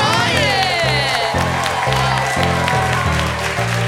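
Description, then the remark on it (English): Loud, sustained audience applause for the cast and crew fills all four seconds, dense clapping with cheering and a few high whoops or whistles near the start, and a low pulsing sound running underneath. “Please give a round of applause to the cast and crew.”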